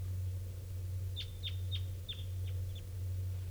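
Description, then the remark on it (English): A bird calls with a quick series of about six short, high, downward-slurred chip notes, an unusual variant of call type 2, moderately loud, over a constant low droning hum. “I think it was the bird I first heard this morning.”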